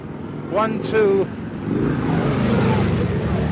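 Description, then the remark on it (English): Four police motor scooters in traffic on a Washington highway: small engines whine and rev up sharply, then settle into a steady rumble of traffic noise with a loud, continuous engine drone. “1, 2, 3, 4 police on motor scooters.”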